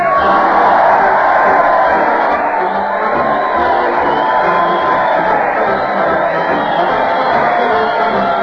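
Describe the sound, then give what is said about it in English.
A large crowd cheers and shouts continuously for comedian Fred Allen as he leads his weekly parade, with a band, to the old Town Hall, a dense, loud roar of many voices with whoops rising and falling throughout, sustained at steady volume. “Listen to the crowd cheer Fred Allen as he leads his weekly parade to the old Town Hall.”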